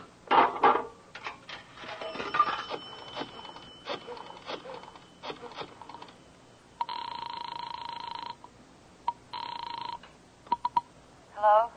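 dialing a telephone

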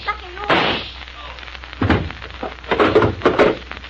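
gunshots fired

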